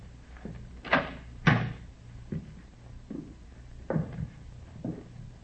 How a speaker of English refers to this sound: Here it is. I'll get it. Better try the door, huh? Yeah.